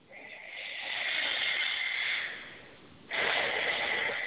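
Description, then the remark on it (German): Two long, deep, conscious breaths in and out during a guided breathing exercise, a slow airy inhale swelling and fading, then a brief pause before another strong breath. No talking. “Atmen wir ein paar Mal tief ein und aus, sehr bewusst.”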